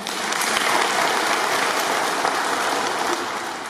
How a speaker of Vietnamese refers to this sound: Các vị mới làm được cái công đức đó, xin cho một tràng pháo tay.